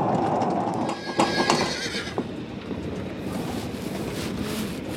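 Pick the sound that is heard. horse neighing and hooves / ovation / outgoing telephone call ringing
horse neighing and hooves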